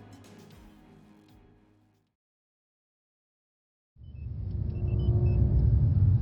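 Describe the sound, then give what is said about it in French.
A low engine hum fades out into two seconds of silence, then a deep, loud rumble of engines that have finished warming up starts up and holds steady, with a faint high whine riding above it. “Les moteurs ont fini de chauffer, commandant.”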